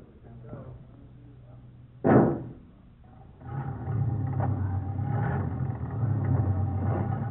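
An old car engine hums low, gives a sudden loud bang or backfire, then settles into a louder, rough, rattling run that keeps going steadily.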